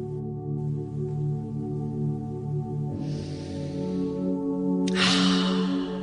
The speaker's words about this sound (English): I mean, I don't know that it's going to work for those that are really in the thick of it out east, but if you found yourself breathing in, taking a morning run, breathing in some of that orange air that we were having, some breathing to detox next.